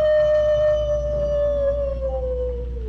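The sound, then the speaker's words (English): A person's voice imitates a coyote howl with one long, steady "woo" that slowly slides downward in pitch over about three seconds. It is clear, with no other sounds. “And when the coyote wanted to say he was sorry, "woo."”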